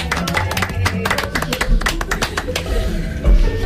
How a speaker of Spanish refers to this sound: Un aplauso para ella.